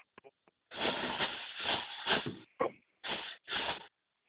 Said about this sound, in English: Oh yeah, my campfire's going really nicely.